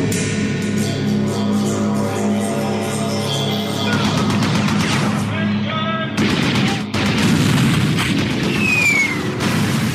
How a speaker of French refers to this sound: Chaque crépitement de mitrailleuse est une symphonie de terreur qui résonne dans les quartiers dits de non-droit à Port-au-Prince.